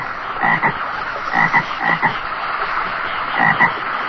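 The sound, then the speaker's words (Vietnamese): Toads croak in a steady chorus at midnight inside a damp, leaky house on a rainy night, with repeated throaty calls pulsing every second or so over a dense, continuous background of overlapping croaks, loud, with no voices. “Cứ nghe ồm ộp bên tai, kêu gào như thể mình đương nằm giữa cánh đồng.”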